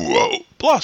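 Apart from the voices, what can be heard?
burping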